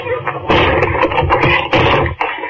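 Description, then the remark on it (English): A locked flat door being kicked down near the lock: heavy, booming thuds land in quick succession, with two especially loud crashing impacts and splintering rattles between them. “If he didn't hear you kicking down his door, he must be staying there.”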